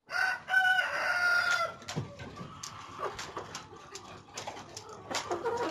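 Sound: chickens clucking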